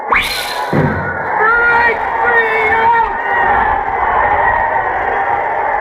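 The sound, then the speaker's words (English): A large baseball crowd erupts into loud, sustained cheering and yelling, a dense roar of many voices that begins abruptly and stays strong throughout. “And bedlam broke out in the boxes like measles.”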